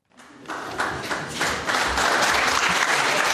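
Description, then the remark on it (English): Supporters in the public gallery of the West Australian Parliament in Perth rise to their feet and burst into applause as the bill to legalise voluntary assisted dying passes, starting from a few claps and quickly building into sustained, dense clapping that grows louder and fuller, with no voices heard over it. “People sitting in the public gallery rose to their feet and applauded when the bill to legalise voluntary assisted dying passed its final hurdle in the West Australian Parliament and became law.”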